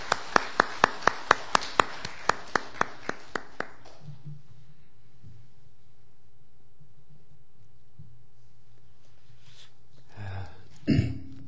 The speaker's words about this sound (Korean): 우리 나오실 때에 박수로 뜨겁게 우리 목사님 환영하겠습니다. 할렐루야, 환영합니다 목사님.